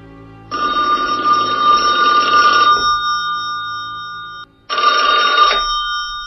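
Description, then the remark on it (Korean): A telephone rings in two bursts, a longer trill followed by a brief pause and a second shorter ring, bright with a steady electronic bell tone and no voices. It is a call from Kim Jong Il to a Tokyo hotel after midnight. “밤 12시가 넘을 무렵 김정일이 전화를 걸어왔다.”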